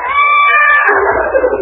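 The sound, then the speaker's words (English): A horse lets out a loud, high-pitched whinny lasting over a second, its shrill tone wavering and breaking up into a rough, fluttering end. “Shut up, horse.”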